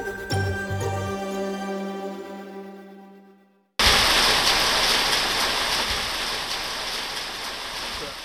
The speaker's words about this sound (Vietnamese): Tiếng mưa trên mái thiết, nghe như âm nhạc, vang đến tai ông Tom Eastlake. Bên ngoài là nông trại, trồng sherry của ông tại thị trấn Yong ở tây nam New South Wales.